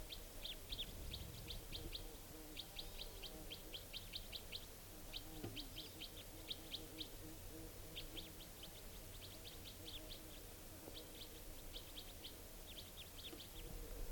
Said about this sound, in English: And this type 4 female is calling here. Wild bird. Doing a rapid type 4 series.